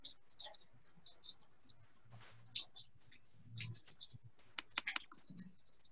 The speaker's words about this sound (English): Got a little, I love how informal these are, that I can just go get some paper towel and start cleaning my computer up here in the rain. I do have an umbrella, but it's not quite doing its job.